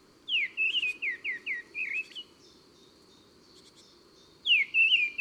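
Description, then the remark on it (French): A mistle thrush sings loud, fluting whistled phrases in a short burst of quick notes, pauses for a couple of seconds, then starts a similar phrase again, with faint background hiss and no voices. “Un chant sonore, mélodieux, en courte strophe, qui pourrait rappeler celui du merle, mais en plus simple, moins varié, presque monotone.”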